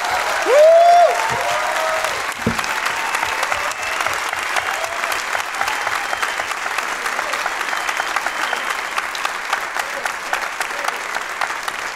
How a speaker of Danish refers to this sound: Skal vi ikke lige give dem en hånd, fordi jeg synes virkelig, man. Det var gode.